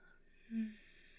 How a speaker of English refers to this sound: while you listen to me yawning.